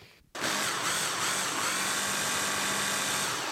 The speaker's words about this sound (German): Jetzt müssen wir den Mixer anschalten. Manchmal braucht es ein bisschen, bis der Mixer das packt. Und hier ist auch ziemlich hart, also machen wir noch ein bisschen mehr Milch dazu.